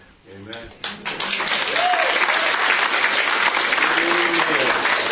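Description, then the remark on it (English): A church audience breaks into steady, sustained applause that swells within the first second and stays loud and dense throughout, with a few faint voices rising briefly above the clapping. “See, I told you they were going to clap for you.”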